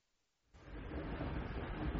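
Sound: train interior ambience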